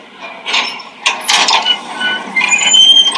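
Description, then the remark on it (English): An elevator door on the second floor slides open and shut after a ding, with a steady mechanical rumble, thin high-pitched squeals and faint metallic scraping running through it for a few seconds, with no voices. “The door is opening.”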